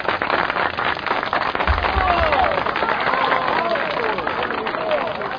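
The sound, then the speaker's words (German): A large crowd breaks into loud, sustained applause at the opening of a horse-riding tournament, a dense, steady wash of clapping that keeps going without a pause, with faint voices mixed into the roar. “Donnernder Applaus für diese markigen Worte.”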